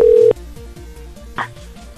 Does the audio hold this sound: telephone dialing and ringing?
yes